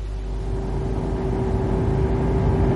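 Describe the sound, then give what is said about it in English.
A car engine runs with a steady low hum and a faint whine, its loudness holding even and rising only slightly toward the end, with no voices. “Oh, give me your keys. I'll drive.”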